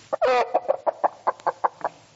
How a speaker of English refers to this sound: What was that? That was a chicken.